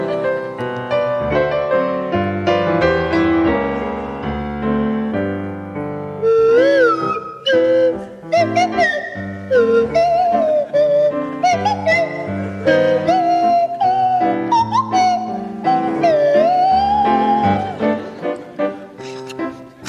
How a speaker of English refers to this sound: to feature Joe Brand on the kazoo and Tony Hawks on the Swanee whistle